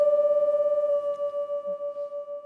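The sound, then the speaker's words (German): A loud, steady resonant tone aimed at a wine glass holds a single pitch while its volume pulses in a regular wobble, setting the glass vibrating; a paper clip hung on the glass rattles and hops. The glass does not break. No voices. “Wenn die anfängt zu rasseln und hüpfen, weiß er, dass er den richtigen Ton getroffen hat, der das Glas zum Wackeln und Schwingen bringt.”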